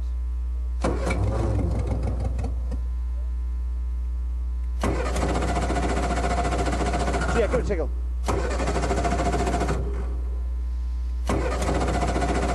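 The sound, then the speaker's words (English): An engine cranks over and over in several long attempts without catching, as not enough fuel is getting into it, its loud whirring labouring against steady background hum, while people briefly speak. “That happy pairing engine sound is making the yellow team a little anxious.”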